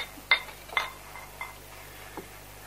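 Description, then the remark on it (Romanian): Drinking glasses clink as they are set down: two bright, ringing taps close together, then a few softer knocks spaced out, all fairly quiet with no talking. “Stai, nu punem pahare, să vă arăt ceva.”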